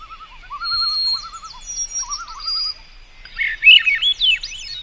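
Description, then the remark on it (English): Swainson's thrushes and white-throated sparrows sing at once in spruce and poplar forest across Alaska and Canada: long, clear whistled sparrow notes held over lower warbling phrases, then rising, fluty, spiraling thrush song swells up near the end. No voices, just a chorus. “Ah, there's the fluty harmonics of the Swainson's thrush. The long, clear whistles of the white-throated sparrow.”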